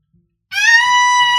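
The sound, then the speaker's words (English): After a brief silence, a voice lets out a loud, sustained high-pitched scream, a piercing steady wail rich in shrill overtones that holds its pitch to the end, imitating a glass-shattering shriek. “Scream, like going to break a glass.”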